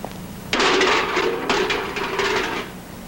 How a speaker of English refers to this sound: Stops at JD's garage. She gets out of the truck and closes the door softly.